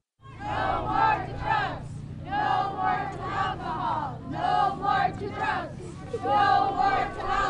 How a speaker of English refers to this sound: A crowd is gathering in front of the Queithluck post office. Students, parents, teachers, IRA members, state troopers, VPSOs, AVCP representatives, and police officers from Queithluck, Akiak, and Akiachuk. They all stand outside.